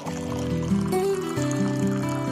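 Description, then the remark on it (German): Water pours steadily into a container at a mountain hut, the Austria-Hütte, a continuous splashing stream with a hollow, shifting resonant tone and no talking. “Wasser. Im Tal eine Selbstverständlichkeit.”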